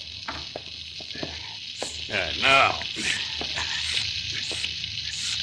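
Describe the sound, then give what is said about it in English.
A blacksmith's forge fire, used to melt gold bars, crackles with a steady, bright hiss, broken by sharp irregular pops and snaps, and swells briefly louder midway through. “The fire in that forge is too hot for me”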